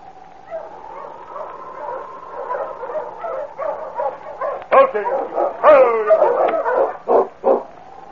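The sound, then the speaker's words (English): Sergeant Preston's tired sled dog team, arriving in the snow at the small settlement of Cross's Landing after traveling over 30 miles that day, whines and whimpers continuously, with several sharp barks and yips breaking out in the second half, growing more excited toward the end. “It was over a week later that Sergeant Preston drove his tired dog team into the small settlement called Cross's Landing.”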